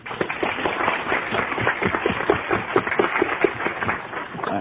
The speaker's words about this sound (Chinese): 我们为他们这些人，我们拍拍手好吗？